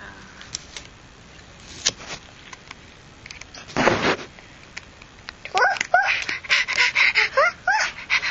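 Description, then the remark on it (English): Puppies whimper in a rapid series of high, wavering squeals over the last few seconds, after scattered soft sniffs and a breathy panting burst near the middle. “Look at all those puppies.”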